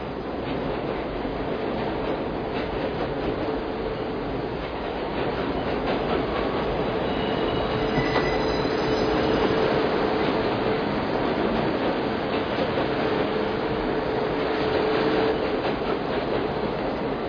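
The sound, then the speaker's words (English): A train rolls steadily along the rails with a continuous rumble and rattle, broken by faint metallic squeals partway through. No one speaks. “Flick the lights on and off as if the train was going over kind of points, and it cut out the electricity.”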